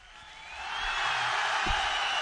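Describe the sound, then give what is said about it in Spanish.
A crowd applauding, a dense, steady wash of clapping that swells in the first second and then holds at a constant level, with no voices standing out. “Eso, gente aplaudiendo.”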